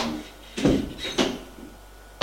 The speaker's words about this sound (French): Elle ouvre la porte. Elle s'apprête à la fermer derrière elle. Mais son mari a mis sa main et ferme la porte derrière lui.